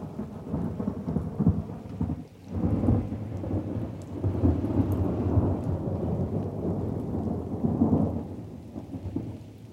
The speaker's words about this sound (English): drenched through, sat and shivered, summer though it was, in the most sheltered spot he could find, which was merely an overhang of rock just off the path, and about as much shelter in the driving rain as no shelter at all would have been.